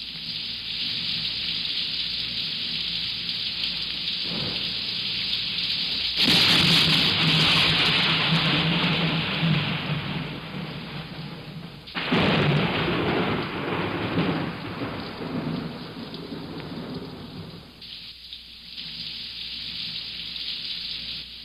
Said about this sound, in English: And then there's rain.